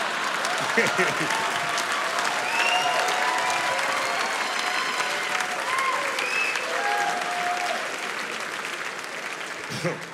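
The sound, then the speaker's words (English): Sustained audience applause, steady and dense clapping for about ten seconds with scattered whoops and voices mixed into the crowd noise, tapering slightly at the end. “I like how y'all just applauded child abuse, but whatever.”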